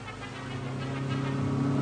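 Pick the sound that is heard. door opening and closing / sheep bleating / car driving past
car driving past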